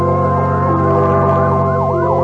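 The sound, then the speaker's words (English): A loud siren wails in rapid rising-and-falling sweeps over a steady engine drone, continuous throughout, from a fire engine racing through New York City at night, with no voices. “A fire engine, suddenly screaming through the night, draws her swiftly from her bed to the open window.”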